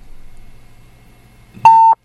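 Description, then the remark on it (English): A steady, loud electronic censor bleep tone from a hand-pressed bleep button, lasting about a quarter second, sounding abruptly after a stretch of quiet low background hum, with a brief click or thump at its onset. “Take your hand off the bleep button.”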